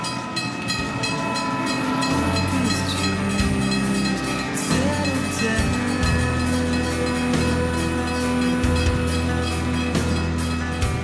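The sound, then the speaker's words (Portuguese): A train runs along railway tracks late at night, heard from a distance: a loud, steady rumble broken by regular rhythmic clacks of wheels over rail joints, with thin metallic whining tones above. No one speaks. “O sinal estava fechado e de longe pude escutar o barulho dos trilhos.”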